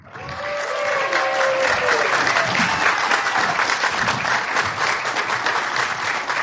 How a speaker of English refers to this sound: First, a big round of applause for Mr. Bill Corbett.